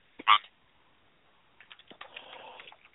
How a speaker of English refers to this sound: I will do some typing and see what I can find.